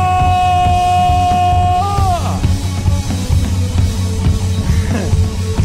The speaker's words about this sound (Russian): О, слава тебе, Господь! Подними воинственный крик и прославь Его!